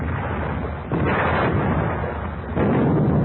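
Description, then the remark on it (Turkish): Heavy cannon fire as a pirate ship fires all its guns at an Ottoman ship, rumbling continuously, with deep booming blasts swelling into louder surges about a second in and again near the end. No voices are heard. “Sakın yaklaştırmayın Osmanlı'yı! Bütün toplar ateş! Ateş!”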